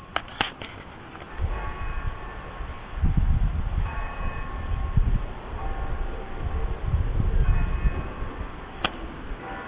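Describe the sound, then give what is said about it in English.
Bells of several churches ring at 6 o'clock with long, overlapping tones, partly buried under a steady low rumble of wind and handling noise as the recorder is held up toward them. No one speaks. “Now some of the churches started up.”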